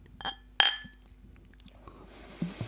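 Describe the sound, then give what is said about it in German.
Two bright glass clinks ring out close together near the start as ginger ale bottles are tapped in a toast, followed by quiet handling noises and a faint low murmur at the end. “Prost. Prost.”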